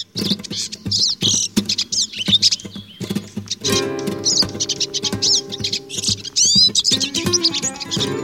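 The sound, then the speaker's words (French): A goldfinch sings, a fast, unbroken stream of bright twittering notes, trills and chirps that goes on for several seconds with no talking. “Et c'est un oiseau qui est réputé pour son chant, particulièrement la sous-espèce qui s'appelle Cardulis parva, le chardonneret qui se trouve au Maghreb et en Espagne, Portugal, la zone géographique, voilà, plus contour méditerranéen.”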